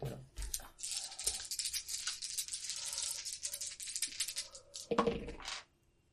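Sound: dice being rolled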